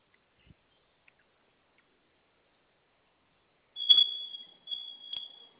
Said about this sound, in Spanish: Sonó su alarma y vamos a ingresar su clave de alarmado que acaba de registrar.